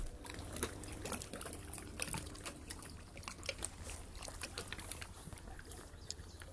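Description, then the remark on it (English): Quiet water laps and splashes softly against a wooden jetty at a swimming spot, with small irregular sloshes over a steady low wash, gentle, in a slight drizzle, with no voices. “But you can just hear the sound of the water lapping against the jetty, and then the echo of the swallows in the boathouse.”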